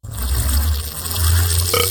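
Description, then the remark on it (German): A long, loud, deep burp rumbles continuously for about two seconds, with a slight rise in roughness near the end and no talking. “Und verpassen Sie auch nicht 64 Rülpser und 14 in Stereo.”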